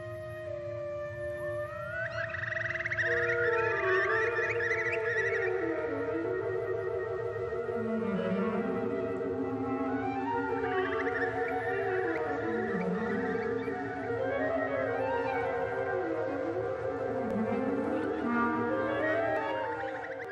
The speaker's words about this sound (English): wrote a concerto for birds and orchestra. Clearly the birds are music. Let's take a listen, actually, Jonathan, to a little bit of that. This is from the Finnish composer Eino Juhani Rotavara.